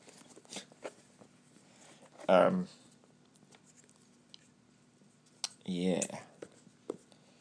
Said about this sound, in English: Right, let's try and insert a pair of scissors in somewhere.